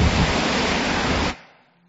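Wind-driven waves on the Sea of Galilee on a windy day make a loud, steady rushing roar with no distinct breaks, which cuts off abruptly after about a second, leaving a faint fading tail. No voices.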